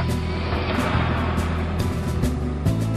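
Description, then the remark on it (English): A truck engine idles and revs, a steady low rumble with slight shifts in pitch throughout, no voices over it. “Found my truck keys, engine on.”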